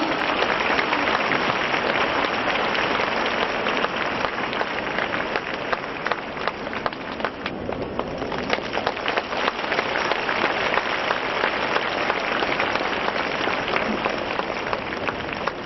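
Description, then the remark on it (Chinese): A large audience applauds warmly and steadily to welcome radio director Lu Junhong, a dense, unbroken wash of clapping that stays loud and even for about fifteen seconds, with no voices heard over it. “现在，让我们用最热烈的掌声，恭请尊敬的卢军红台长为我们慈悲看图腾。”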